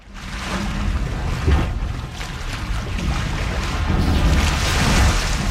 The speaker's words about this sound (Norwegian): Da vi ute ved havet. Ja, det riktig.